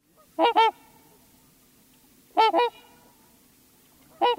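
Loud, brassy honks of a trumpeter swan, North America's largest waterfowl, arrive in paired bursts, repeating roughly every two seconds over a faint low background hum, with no voices present.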